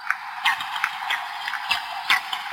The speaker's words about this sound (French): Ah, ça piaille ! Oui, ça fait une sorte de friture, ça c'est normal pour un poisson. Ce sont des harengs. Ah oui ? Ouais. Et eux, ils avalent des bulles d'air et ils les éjectent par l'anus. Autrement dit, les harengs communiquent en pétant.